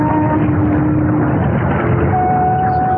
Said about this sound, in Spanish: El muchacho reacciona inquieto al escuchar las lejanas sirenas del puerto.